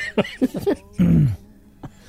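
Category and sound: vocal imitation, imitated coughing fit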